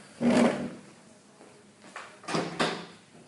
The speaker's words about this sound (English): Now let's close the door.